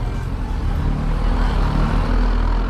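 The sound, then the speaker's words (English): A bus leaves a farm at the end of the working day, taking workers back to the village, with a loud, steady, low engine rumble and a broad roadway hiss, holding constant through the short stretch with no voices. “The workers return to the farm from where the bus leaves to take them back to the village.”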